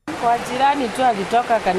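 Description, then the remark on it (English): A steady, full rush of the very high, fast-flowing Ngong River fills the background while a woman speaks over it through a translator, at the spot where her house stood before the river washed it away; the torrent is constant throughout. “So here she is speaking through a translator, and you can hear the very high Ngong River rushing behind her where her house used to be.”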